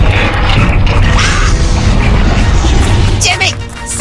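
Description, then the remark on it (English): A loud, sustained magma cannon blast from RoboFiend roars with grinding, whirring machinery and a rumbling low end, filling the full four seconds before thinning slightly at the end, with muffled voices mixed in. “RoboFiend doesn't get a magma cannon until level 5.”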